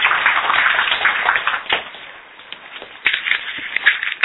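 A crowd applauds steadily, a dense crackle of many hands clapping at once. It swells, eases briefly in the middle, then rises again with a few sharper claps standing out.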